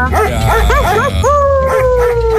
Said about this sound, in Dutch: Ja, ik heb ook een aap geopereerd vandaag namelijk. Ja, dus ik denk, laat maar even apengeluid doorheen het dorp gooien.